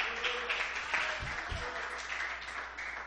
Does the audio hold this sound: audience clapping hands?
yes